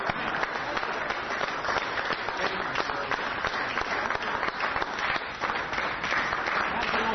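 An audience at an evening forum applauds steadily for several seconds, a dense, crackling wash of many hands clapping at once that stays loud and even from start to finish.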